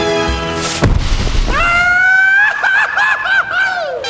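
Fireworks burst with a single loud, crackling bang, followed by several seconds of sustained, wavering high-pitched whistling tones that rise and bend over a steady background rumble.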